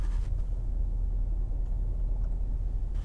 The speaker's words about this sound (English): Quite a bit of traffic today. Of course, I'm in with the rush hour traffic, because it is 8 o'clock in the morning, so lots of traffic on the road at the moment.